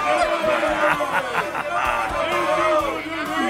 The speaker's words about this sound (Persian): همگی بیاین ایشونو تشویقش کنیم.